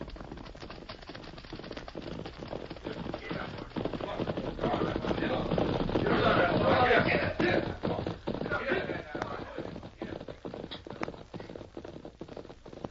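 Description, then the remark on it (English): A big bunch of riders on horseback gallops past, a dense patter of hoofbeats that swells to a loud peak midway and then fades away. “Riders in a big bunch.”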